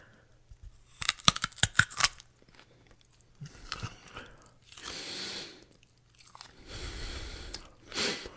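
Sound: chewing food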